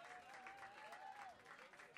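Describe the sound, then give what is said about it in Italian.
An audience applauds steadily for about two seconds, a dense, even wash of many hands clapping, with a thin wavering whistle-like tone gliding faintly above it. “un applauso se,”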